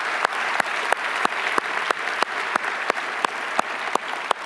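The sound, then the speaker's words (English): An audience applauds steadily for several seconds to tell Springboro they love it, a dense wash of clapping with sharper individual claps popping out at a fairly regular pace; no one speaks. “And so by applause, would you just say to Springboro, we love you, and we're going to pray for you, right?”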